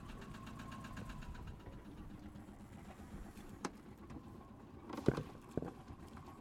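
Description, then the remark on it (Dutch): A motor, just started and running after the winter, idles steadily with a rhythmic, knocking chug that carries on throughout, with a few sharper clanks near the end and no talking. “Hij doet het, de motor heeft de winter overleefd.”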